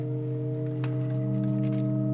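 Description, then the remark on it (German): A steady, sustained organ chord of several pipes sounding together on a keyless wooden-frame organ fitted only with its sounding pipes, newly inserted pipes blending with five others, holding unchanged at moderate loudness with a faint background rustle and no voices. “Ihr Klang vermischt sich mit dem der anderen 5 Pfeifen.”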